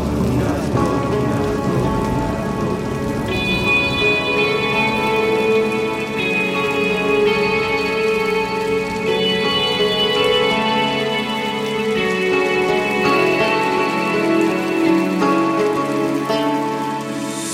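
Steady rain patters continuously throughout, a dense, even hiss of falling drops blended with sustained tonal music playing over it, with no speech.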